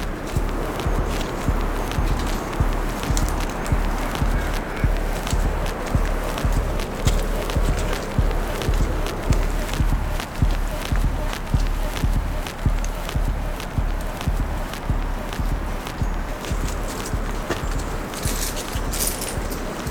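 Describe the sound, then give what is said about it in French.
The hooves of two cows plod along a dirt logging trail as a lumberjack works with them, a steady rhythm of heavy thuds continuing for the whole stretch with faint clinking and rustling mixed in. “Qui travaille avec deux vaches sur un sentier de débardage.”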